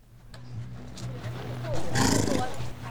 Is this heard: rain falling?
no